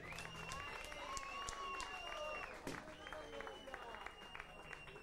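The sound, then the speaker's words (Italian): A crowd at a rock concert applauds steadily for about five seconds, dense clapping running throughout, with sharp whistles and scattered cheering voices rising over it. “Un applauso”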